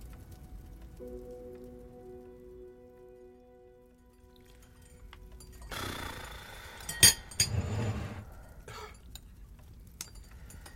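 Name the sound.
heavy rain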